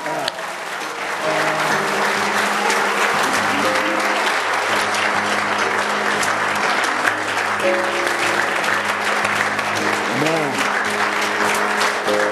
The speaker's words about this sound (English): By the way, don't give me a half-hearted applause. Let's applaud if you're going to applaud.